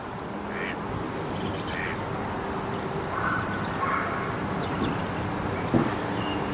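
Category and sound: bird, ducks quacking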